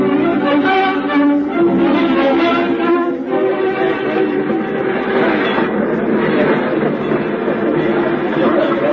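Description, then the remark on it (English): A busy train station bustles with steady, loud crowd chatter, while rumbling and hissing from trains fill the background throughout, a dense continuous wash of sound, with a train due to leave in five minutes. “Darling, your train leaves in 5 minutes, and you'd better stand at the gate if you want to get a seat.”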